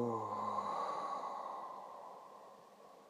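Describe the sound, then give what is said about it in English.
A slow, deep breath released audibly with sound during a breathing exercise, starting with a soft voiced sigh-like tone and trailing off into a long, fading airy exhale. “Inhaling. Exhaling long and slow and deep with sound.”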